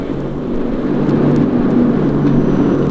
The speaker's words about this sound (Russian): Пошел на взлет наш самолет.